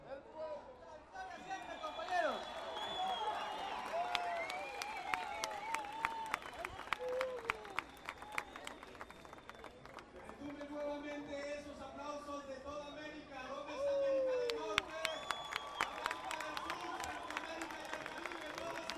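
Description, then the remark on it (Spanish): A crowd applauds a group of performing artists at the opening of the third Social Forum of the Americas in Guatemala, steady dense overlapping claps, while voices whoop and cheer over the clapping throughout, rising and falling in loud bursts. “Juntas, que retumben esos aplausos.”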